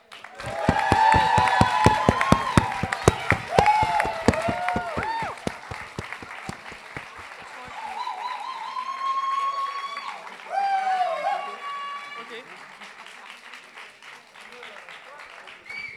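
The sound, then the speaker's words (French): A crowd bursts into loud, sustained applause with whoops and cheers rising over the dense clapping, which gradually thins and softens toward the end. “Du coup, est-ce qu'on peut juste, s'il vous plaît, faire un dernier round d'applaudissements pour tous les candidats qui ont été incroyables ce soir”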